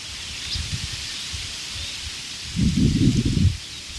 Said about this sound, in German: Beenden wir doch diesen kurzen zweiten Teil dieses morgendlichen Podcastes mit dem schönen, nach Wasserfall klingenden Blätterrauschen der Espen.